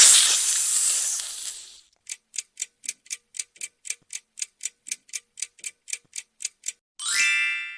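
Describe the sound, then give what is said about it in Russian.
A snake hisses loudly for about two seconds, followed by a steady run of roughly eighteen sharp, evenly spaced clicks and a short buzzy rattle at the end. “Это шипит змея.”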